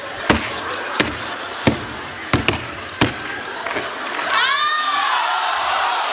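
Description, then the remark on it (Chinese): Heavy foot stomps on a stage land about six times at uneven intervals, each a loud sharp thud over steady background noise, and then a drawn-out vocal cry rises at the end. “我这什么都没听见，光太跺脚了。”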